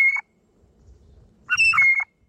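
An irritated blue jay gives two harsh, nasal, buzzy calls: a brief clipped one, then after a pause a louder, longer squawk, with a faint low rumble in the gap.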